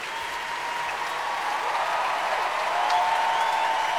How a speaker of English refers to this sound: Well, all the comedians and musicians lined up across the front of the stage, and Jules Buckley encouraging the concert orchestra to stand, and everybody's applauding everybody else.